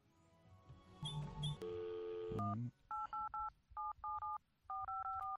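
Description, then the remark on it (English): A touch-tone phone number being dialed: a quick run of about ten clear electronic beeps in little groups of three, fairly loud, following a brief jumble of other phone tones. “Oh, I got to dial 1.”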